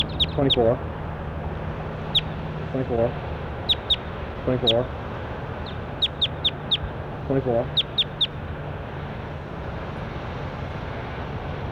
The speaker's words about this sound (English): That was bird 24.